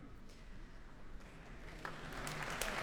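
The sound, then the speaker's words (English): Concert hall audience applause at the Proms as Marc-André Amelin strides on stage, followed by Jacques Van Steen, for a performance of Rachmaninoff's Rhapsody on a Theme of Paganini with the BBC National Orchestra of Wales; it swells from a low, scattered patter into dense, steady clapping that grows noticeably louder in its final second. “And applause now for Marc-André Amelin striding on stage, followed by Jacques Van Steen for tonight's Proms performance with the BBC National Orchestra of Wales.”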